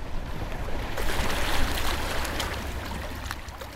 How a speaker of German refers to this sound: Idyllisch plätschert die Neiße am Rand von Forst, eine Kleinstadt in der Lausitz, tief im Osten, an der Grenze zu Polen.